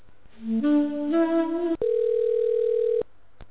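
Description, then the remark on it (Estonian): A telephone queue waiting tone on the Fazer Pagarid bakery ordering centre line: a short electronic melody climbing in two steps, then a single steady, level tone held for over a second before cutting off, followed by a faint click. “Olete meie kõneoote järjekorras. Teenindame teid esimesel võimalusel. Palun oodake.”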